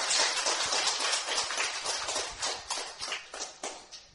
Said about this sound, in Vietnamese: Xin đại chúng cho một tràng pháo tay để tôn vinh Hòa Thượng.